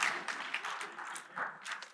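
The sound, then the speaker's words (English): A crowd applauds during a church sermon, with dense, steady clapping filling the whole moment, many hands at once, fairly loud, with no talking over it. “You're clapping because it didn't hit me in the face?”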